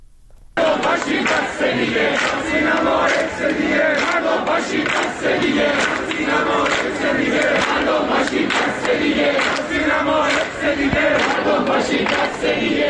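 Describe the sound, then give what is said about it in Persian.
A large crowd of students at Rasht University of Medical Sciences chants a protest slogan related to events at Evin prison, in unison, loud and rhythmic, their voices rising and falling in repeated pulses that continue steadily throughout. “و شعار دیگر هم شعاری است که در دانشگاه علوم پزشکی رشت سر داده شده که اون هم مرتبط هست با اون چیزی که در زندان اوین گذشته.”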